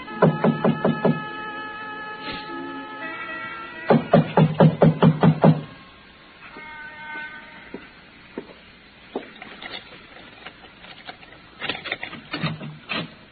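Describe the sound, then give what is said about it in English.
Someone knocks on the locked front door of a building where a fire had occurred, in loud groups of sharp, rapid raps: a short series at the start, a longer run of about seven quick knocks midway, and another brief burst near the end. “I didn't think anyone would be there that late, but I knocked anyway.”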